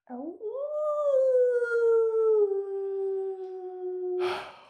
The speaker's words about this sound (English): Oh. Wow. I have to clutch my chest every time I hear that. Those howls are long.